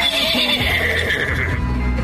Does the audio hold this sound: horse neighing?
yes